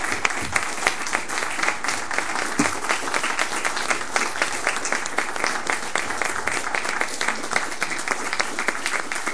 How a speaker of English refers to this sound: I'd like to give him a big applause for all he's done.